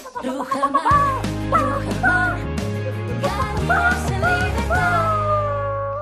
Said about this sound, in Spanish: Las gallinas de Rujamar. Las gallinas también son las mejores.